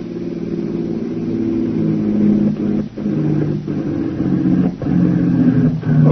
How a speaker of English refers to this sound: Behind them, two other Jap radio cars are rapidly approaching.